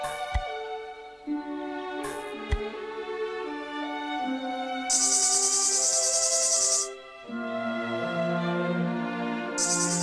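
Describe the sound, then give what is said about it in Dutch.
A high, shrill tree cricket clinging to a branch trills in two sustained bursts, layered over gentle, tuneful instrumental music with shifting notes. No one speaks. “Goedemiddag, schreeuwde een boomkrekel die zich aan een tak vasthield.”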